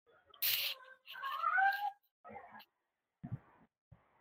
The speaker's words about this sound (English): As my cat's chiming in here, I don't know if the mic's picking that up, but mine are right around here too.